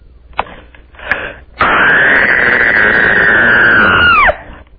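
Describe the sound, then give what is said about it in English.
After two short breathy bursts, a loud high scream is held steadily for almost three seconds, then its pitch drops sharply as it cuts off. “I like the long extender scream.”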